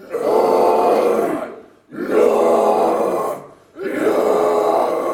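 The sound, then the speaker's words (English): Three long, harsh guttural growls in the style of heavy metal vocals, made by students learning to growl at the Metal Factory school in Eindhoven, Netherlands, each lasting over a second, loud and raspy, separated by brief breaths of silence. “These students are learning to growl.”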